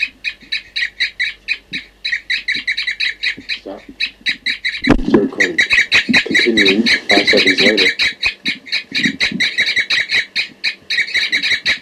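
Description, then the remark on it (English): Caged birds numbered 40 and 06 call back and forth in repeated bursts of bright, rapid chirping, seemingly in response to bird 4-3 in the next cage, nearly continuous throughout. A man's voice speaks briefly over the calls partway through. “We're calling now 40 and 06 are cooping in response, I think, to 4-3 in the next cage.”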